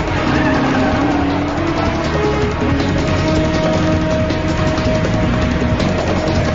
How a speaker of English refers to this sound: As Gray watches, Miles speeds away in a patrol car. He crosses the border.